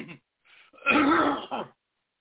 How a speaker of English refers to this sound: Clear my throat, I pray, Lord, in the name of Jesus.